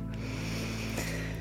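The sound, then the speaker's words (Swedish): A single slow, deep breath drawn in during a breathing exercise, a steady airy rush lasting about a second and a half over a faint low hum. “Andas in.”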